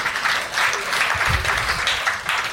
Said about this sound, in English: And at least half of the people here applaud that.